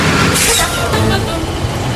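A heavy YPF truck rumbles, and a sharp hiss of air brakes bursts out near the start before fading into steady engine noise.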